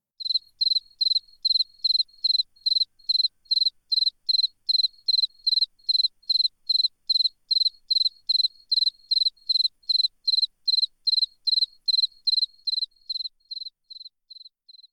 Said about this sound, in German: Gute Nacht, Grille.